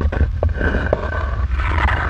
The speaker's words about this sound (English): That sound means you've hit the edge of the map. That is a really weird border sound.